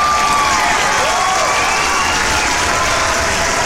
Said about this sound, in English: Wow, oh my gosh, thanks for all the applause. Oh my gosh, I'm not gonna let this fame go to my head.